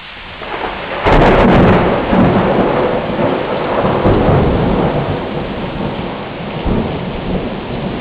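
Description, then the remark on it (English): A sudden, loud thunderclap from a thunderstorm video on the internet, arriving after lightning about 1.6 miles away, bursts in about a second in and rolls on as a long, rumbling roar over steady heavy rain, with no one speaking. “I've been found a video on the internet of some thunder and lightning, and what I'm going to do is I'm going to start a timer as soon as I see the lightning, and stop it as soon as I start to hear the thunderclap arrive.”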